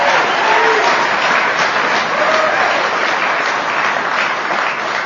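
Steady, loud audience applause at an Alcoholics Anonymous meeting, a dense wash of many hands clapping that holds evenly for about five seconds, with faint voices mixed in beneath it.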